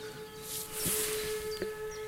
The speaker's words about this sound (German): Hört ihr es? Da passiert gerade irgendwas. Die Sirenen heulen los.